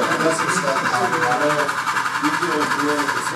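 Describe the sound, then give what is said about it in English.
A steady mechanical whir and rumble of a long model freight train powered by four locomotives running continuously around a layout, with a person talking over it throughout. “… takes control of a long freight train powered by four locomotives”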